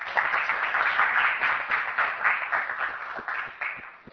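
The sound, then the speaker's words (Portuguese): An audience applauds steadily, a dense wash of many hands clapping at once, sustained and fairly loud throughout before thinning slightly toward the end. No one speaks. “Eu não sei se é comum baterem palmas,”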